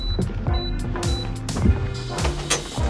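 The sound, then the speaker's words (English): A malfunctioning personal printer in an office whirs and grinds unevenly, with a steady motor hum, repeated clicks and bursts of rattling, plus a few faint high beeps. “What was the point of having a personal printer in his office if it didn't even work half the time?”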